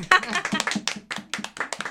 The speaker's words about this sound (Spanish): Bueno, un aplauso para nosotros mismos.